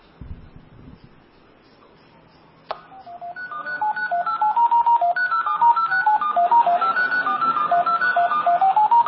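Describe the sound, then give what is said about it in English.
A click followed by a rapid run of telephone touch-tone beeps dialing a phone call, dozens of short steady tones in quick succession, fairly loud and clear with no talking. “Basically, what you've seen is that we've successfully gotten it to make a phone call to a number that we chose by probing only the central office,”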